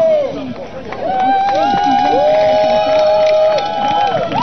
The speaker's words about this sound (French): Ah non, il y a encore nos tout dernières stars qui vont monter le tapis rouge du service civique. On les applaudit.